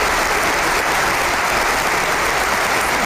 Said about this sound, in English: Standing ovation right there. I know. I got like muddled applause